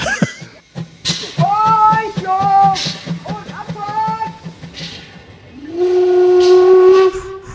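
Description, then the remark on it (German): A steam locomotive of the island railway at Binz on the island of Rügen, Germany, blows its whistle in several wavering blasts, ending in one long steady tone, while rhythmic chuffing puffs run underneath, loud. “Da bläst und schnauft er nochmal so richtig.”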